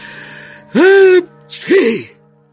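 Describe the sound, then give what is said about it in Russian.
A single sneeze, voiced and theatrical: a rising, drawn-out 'ah' breath followed by a short, breathy burst, loud, apparently performed by a voice imitating a sneeze; a commander sneezing after a fly landed on his nose. “Но для обрадовавшихся стрельцов командирский чих послужил прямым приказом, а приказы, как известно, не обсуждают.”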